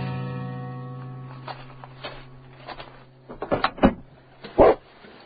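A dog barks several times in quick, uneven bursts, the last bark the loudest, over a low steady hum that fades out early on.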